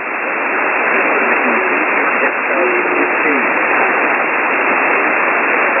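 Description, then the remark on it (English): A weak amateur radio signal fading up and down, buried in steady, narrow-band hiss, with a faint, garbled voice drifting in and out beneath the static for several seconds. “The signals are too up and down.”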